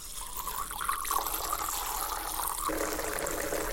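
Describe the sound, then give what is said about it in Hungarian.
Wine being siphoned from a barrel by Terjék Lajos; the wine is a 2005 vintage dry szamorodni of yellow muscat (sárga muskotály). A steady gurgling trickle of liquid runs continuously at moderate loudness, its tone shifting slightly lower toward the end, with no voices. “Ez a bor, amit most Terjék Lajos kiszívott az egyik hordóból, ez mikori évjárat és milyen fajta?”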